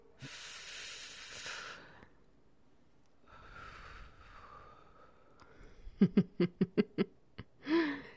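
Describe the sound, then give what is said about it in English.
A long, forceful breathy exhale of cigarette smoke blown into someone's face, a softer breath, then a quick run of sharp coughs from the person it was blown at, ending in one final hack. “Don't like the smell of cigarettes, huh? Having it blown in your face makes you cough a bit.”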